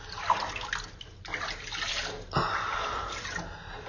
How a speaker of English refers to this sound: Pour some water down your breast.